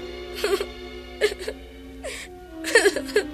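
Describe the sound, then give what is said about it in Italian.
Breathy sobbing and whimpering in four short, uneven bursts, each a quivering voiced cry separated by brief pauses, with no words spoken: Pinocchio crying in the dark inside Mangiafuoco's wagon. “Trovò il povero Pinocchio che piangeva nel buio.”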